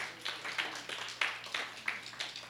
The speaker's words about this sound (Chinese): 阿们，我们给耶稣一个很大的掌声。